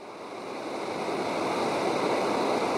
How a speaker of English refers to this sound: …, founder of the Native Fish Society, muses on the banks of the fast-flowing Salmon River in Oregon.